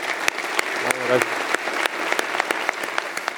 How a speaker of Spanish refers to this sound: Así es que un aplauso.